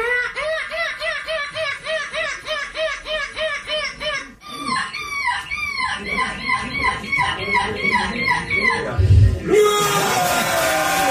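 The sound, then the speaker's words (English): A 10-year-old boy mimics a gull at the European Gull Screeching Championship, which he won for the second consecutive year, letting out a rapid string of high, yelping cries that rise and fall in quick rhythmic bursts, growing harsher and more strained before a final noisy burst. “at what point growing up did you know that you could imitate a seagull as well as you do?”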